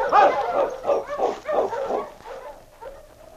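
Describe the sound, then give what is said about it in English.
A dog named King gives a run of short, excited barks and yips in quick succession, then trails off into a softer, higher whimper at the end. “Some dog you got, Sergeant, believe me.”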